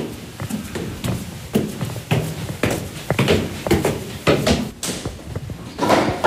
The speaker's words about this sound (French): Ça, c'est la porte de l'usine de mon grand-père qui a été faite en 1930. Je l'ai récupéré, donc il y a ses initiales, Béné Ferdinand. Ferme la porte ici, vous.